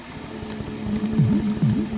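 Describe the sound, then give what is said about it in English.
Weather-generated drone music from a weather warlock that converts precipitation, snow, sun and wind into drones: low, steady drone tones hum beneath a soft, constant patter of rain, with a few gliding pitch swoops rising and falling toward the end. No voices. “There we go, we've got some weather-generated background music. You can hear the rain.”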